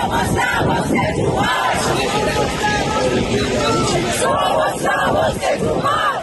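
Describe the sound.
A large crowd of protesters in Madrid, Spain, shouts the name of a rapper together in support of him, in loud, repeated rhythmic chants, voices massed into a dense, continuous roar for several seconds.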